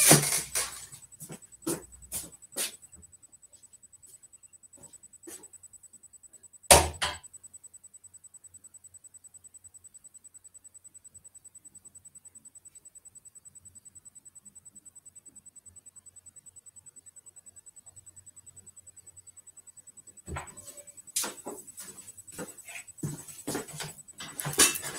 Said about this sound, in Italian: Adesso, se mi aspettate un momento, i miei cani mangiano già a quest'ora del pomeriggio, vengo subito.